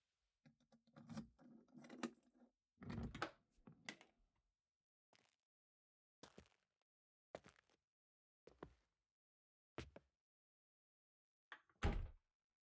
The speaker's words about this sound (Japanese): 鍵と。ごめん、すぐ開けるから。